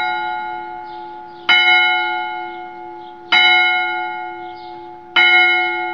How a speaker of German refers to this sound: Nun hätte man auch sagen können, beim Glockenschlag ging es los. Denn direkt gegenüber dem Gasthof war eine Kirche und deren Glocken schlugen jeweils viertelstündlich die Uhrzeit mit 1-4 Schlägen an.